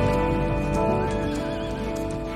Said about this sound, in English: rides a Palomino horse as he herds the cattle.